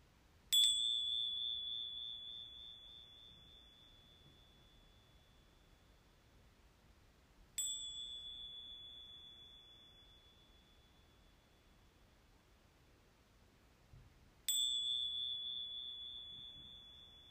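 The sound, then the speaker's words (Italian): Three strikes of a small meditation bell during a guided meditation, each a bright, high ringing tone that sustains and slowly fades before the next strike, spaced about seven seconds apart, with no voices. “E delicatamente, al suono delle campanelle, permetti ai tuoi occhi di chiudersi o di rimanere socchiusi.”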